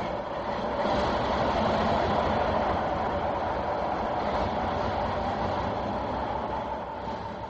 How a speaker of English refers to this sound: This locomotive that's coming in now is a very large one. It's painted in green and white, which are the colors of the Pakistani flag. On the side is the legend Northwestern. This one is called the City of Ceylon.